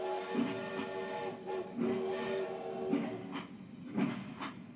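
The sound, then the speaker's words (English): A train rolls steadily along the rails with a continuous low rumble, punctuated every second or so by a rhythmic clack of wheels over track joints. No one speaks. “It was called Fantates by George MacDonald, and he bought it, boarded a train, and sat by the window and began to read.”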